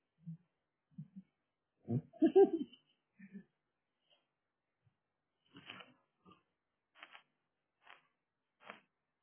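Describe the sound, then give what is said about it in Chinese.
A person imitates a cow's moo with a few short, low grunting bursts and one louder drawn-out cry, followed by a series of soft scattered clicks and rustles. “不行，你是个人，学牛叫干什么呀？”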